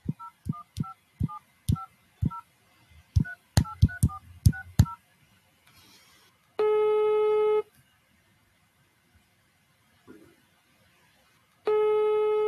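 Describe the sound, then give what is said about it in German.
A quick series of about a dozen touch-tone beeps as a number is keyed in to call Hand on Demand, followed by two long, buzzy ringing tones separated by a few seconds of quiet. “Ich ruf mal hier an, mal gucken, ob er rangeht.”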